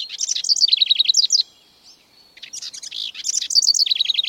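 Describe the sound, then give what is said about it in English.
A house wren sings two bursts of rapid, bubbly notes tumbling downward in a cascade, separated by a brief quiet pause. The song is clear, with no voices. “What about the song of a house wren? Would you call this a trill or a cascade?”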